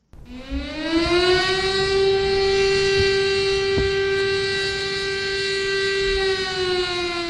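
A civil defense siren sounds in Nanjing, China, during a moment of silence marking the 80th anniversary of the Nanjing Massacre: one long, steady wail, rising quickly at the start and then holding a loud sustained tone for several seconds, with faint background noise and no talking.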